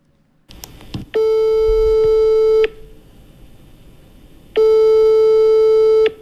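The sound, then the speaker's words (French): A telephone ringback tone while calling someone who is supposed to join them: two long, steady, buzzy tones, each lasting about a second and a half with a pause between them, preceded by a few soft clicks. No one speaks. “Il est censé nous rejoindre. Il devrait déjà être là. On l'appelle?”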